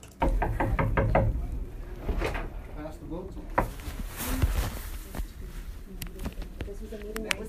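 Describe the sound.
A reporter knocks on the door of a senators' meeting in Idaho, a quick run of about half a dozen firm, evenly spaced knocks, followed by muffled voices and shuffling.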